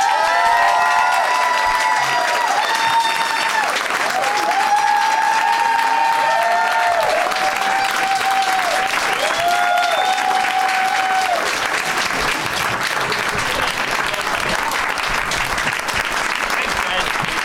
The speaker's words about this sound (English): Thank you for that round of applause. I appreciate it.